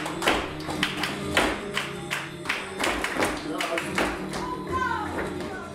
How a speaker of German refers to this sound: Alle tragen weite Röcke und Schuhe mit dicken Absätzen. Zu der Musik drehen sie sich, stampfen auf den Boden, werfen ihre Arme in die Luft und ganz wichtig, sie klatschen.